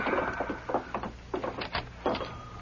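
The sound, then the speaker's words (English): A door opening, with a quick series of rattling clunks and scraping creaks spread over a couple of seconds, moderately loud, with no one speaking. “Open the door, Dave.”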